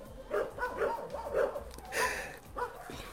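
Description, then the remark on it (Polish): Dogs at an animal shelter bark repeatedly in short, irregular bursts, about five or six yaps and woofs over a few seconds, moderately loud, with no talking. “Pani jest właśnie w schronisku, bo przyszła pani po psiaka, tak?”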